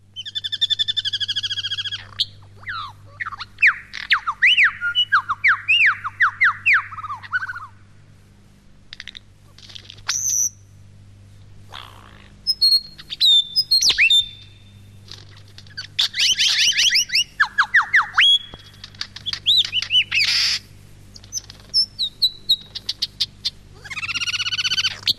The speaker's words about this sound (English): But not before a little something from the ABC's magnificent sound effects collection. A superb lyrebird, as you will hear him in his forest home.